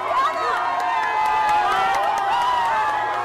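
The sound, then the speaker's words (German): A large crowd cheers and shouts without pause, celebrating Evo Morales's resignation on 10 November after the military chief called for it; many overlapping voices rise and fall in pitch, with sharp bursts cutting through a steady, loud roar. “Als ihn am 10. November der Militärchef zum Rücktritt auffordert und Morales dem folgt, ist der Jubel groß.”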